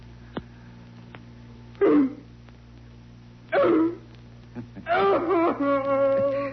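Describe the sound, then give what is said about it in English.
A person imitates a dog, letting out three loud, strained barks spaced a couple of seconds apart, the last one drawn out into a howling whine, over a steady low hum. “Louder. Louder, puppy dog.”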